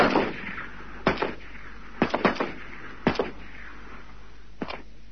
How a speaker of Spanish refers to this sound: Cada uno entrará por una de las puertas de la escuela. Al poco tiempo se oyen varios disparos.